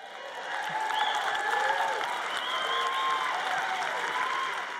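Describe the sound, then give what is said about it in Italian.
A crowd applauds steadily for several seconds, dense clapping with scattered whoops and whistles rising above it before the ovation begins to fade. “Quando qualcuno vi insegna riguardo al donare, dovreste gridare, applaudire ed esultare, perché credetemi, ragazzi.”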